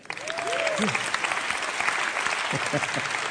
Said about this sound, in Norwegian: Han kommer fra Aftenposten. Skal vi gi han en applaus, eller?